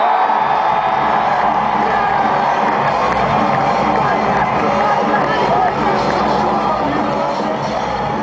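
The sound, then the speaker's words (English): A large concert crowd in Liverpool roars and cheers continuously as a band is introduced on stage, a dense wall of whoops, shouts and babble that stays loud and steady throughout. “But Liverpool, this is a fantastic crowd.”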